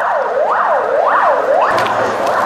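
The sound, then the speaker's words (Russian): Ambulance sirens wail as ambulances drive away from the scene of a terrorist attack, in a repeating rising-and-falling sweep, about three cycles, loud and steady over a constant rumble of background noise, with no voices. “Сейчас видно, как отъезжают скорые.”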